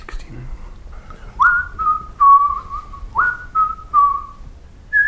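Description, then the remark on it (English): Someone whistles the tune of Three Blind Mice, a clear, steady whistle stepping down through the three-note opening phrase twice, each note held briefly with small gaps and no talking. “Three blind mice. Three blind mice, yes, well done.”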